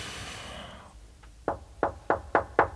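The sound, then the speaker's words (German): A soft breathy rustle fades out, then a quick series of five firm knocks on a door lands in a steady, slightly quickening rhythm, clear. “Du solltest einfach klopfen”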